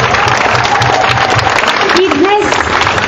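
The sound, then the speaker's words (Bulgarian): Sustained, dense audience applause for the sponsors of the Dobrich volleyball club Dobrudzha 07 after its first title, loud and steady like many hands clapping at once, with a voice briefly audible over the clapping. “Покори го, защото има силна игра, защото има предана публика, защото имаше и ще има финансовата подкрепа на община град Добрич и на десетките спонсори, които също заслужават аплодисменти.”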